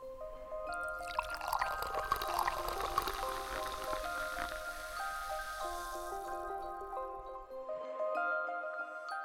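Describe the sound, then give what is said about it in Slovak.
A sparkling drink is poured into a glass on New Year's Eve, the pitch rising as it fills and bubbles crackle loudly, then a second shorter pour begins near the end. No one speaks. “A keď už máme ten silvestrovský čas, tak nebudeme piť čaj, pretože to je skôr o bublinkách.”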